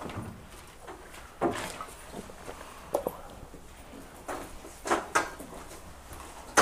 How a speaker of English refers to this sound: Hi, come on in. We can pull a chair right up for you.